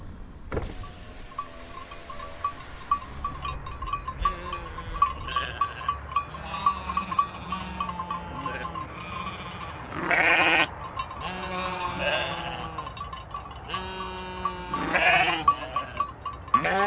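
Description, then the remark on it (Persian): A flock of sheep passing along a roadside outside the city bleats over and over, some calls loud, others fainter, heard from a stopped car with its window down, with a steady low rumble underneath and no talking. “اگر الان تونستید حد بزنید که بچه با دیدن گوسفند و شنیدن صدای گله اولین حرفی که به زبون آورد چی بود”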